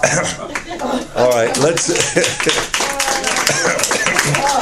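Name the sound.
audience clapping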